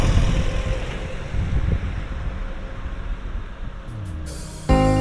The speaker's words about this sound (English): And here's a bus.